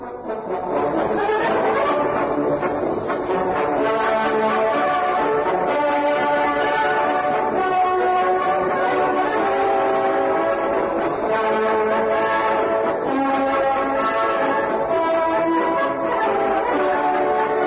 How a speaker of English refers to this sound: That music had scientific significance as well. Written in 1900, it is called the Zeppelin March, and it commemorates the first airship built by Graf Zeppelin in that year.